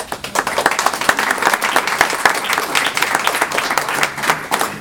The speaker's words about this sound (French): C'est gênant que vous applaudissiez quand même. Hein, c'est super. On applaudit les romans. Vous applaudissez les romans.